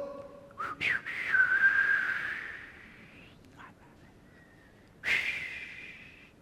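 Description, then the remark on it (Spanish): A soft, breathy human whistle, illustrating the gentle whistle after the fire in the biblical account of Elijah, holds a wavering tone for a couple of seconds, fades, then returns briefly in a second gentle whistle, quiet with no talking. “Un silbido, ¿qué dice? Tratemos de pensar un silbido.”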